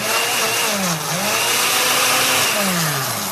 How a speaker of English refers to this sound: So let's just throw in some of these strawberries here and... We'll get the blender going. All right. Make a little smoothie